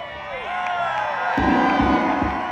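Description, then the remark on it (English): A large outdoor crowd cheers and whoops together in a loud, sustained roar of many overlapping voices as a total solar eclipse reaches totality, joined partway through by a few deep, thudding low pulses from a synth soundtrack. “Controlled by UV rays, the synth gives up for a moment, but not the crowd.”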